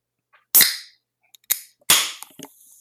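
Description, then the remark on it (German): A drink can holding a 10% alcohol drink is opened: a sharp crack bursts into a fizzy hiss, a small click follows, then a second loud pop and hiss trailing off into faint fizzing. “Aber es klang jetzt gerade schon so, als hättest du einfach die Dose in der Mitte zerrissen.”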